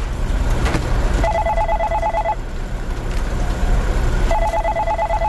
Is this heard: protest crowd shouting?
no